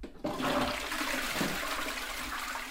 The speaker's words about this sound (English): The remains are flushed down the toilet into the wastewater.